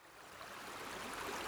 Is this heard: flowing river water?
yes